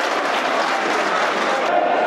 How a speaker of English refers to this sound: Polite applause for that effort.